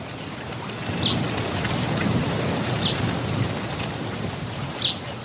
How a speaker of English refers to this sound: Said young springbok as the rain began to fall.